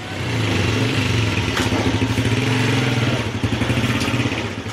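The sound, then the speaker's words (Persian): A motorcycle engine runs steadily, its low pulsing rumble holding loud and even throughout with slight rises in pitch, no voices present. The motorcycle is used to deliver honey to customers in the markets of Herat, Afghanistan. “او با استفاده از موتورسایکل به مشتریان خود در بازارهای شهر هرات عسل می رساند.”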